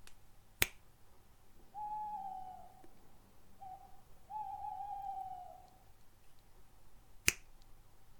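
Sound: owl hooting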